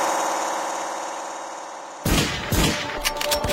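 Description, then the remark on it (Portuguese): A steady droning hum gives way to a burst of loud gunshots as people open fire, several sharp cracks fired in quick irregular succession, echoing over rough background noise. “gente tá dando tiro, tá dando tiro.”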